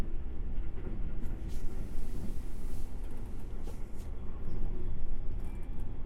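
A steady, low rumble fills the inside of a moving train carriage, a continuous droning hum with faint rattles over it. No one speaks.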